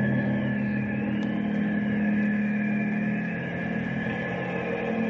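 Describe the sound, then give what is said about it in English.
A helicopter flying overhead drones without pause, a low throbbing engine hum with a thin higher whine riding above it, holding an even loudness throughout. No voices are heard. “It sounds like it's coming right over us.”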